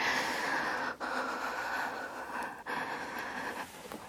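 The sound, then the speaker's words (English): Deep, airy breathing that rushes on steadily, broken by two brief pauses as the breath turns over, with no talking. “breathing. That's what we're doing, right?”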